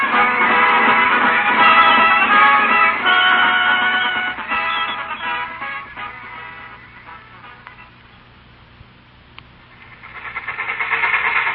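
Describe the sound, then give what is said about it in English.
A train rumbles steadily along the tracks, a dense mechanical roar that eases and fades for a few seconds before swelling loud again, with no voices. “Well, I still can't figure why we couldn't wait in New York for a later train.”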